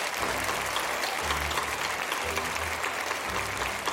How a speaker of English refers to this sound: We are so very, very proud of you. And so please, let's give a round of applause to this wonderful group.